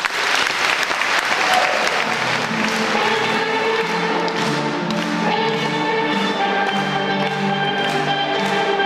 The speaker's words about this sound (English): A round of applause.